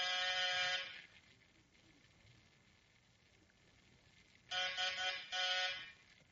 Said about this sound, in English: All right, ring the bell, see if anyone's home.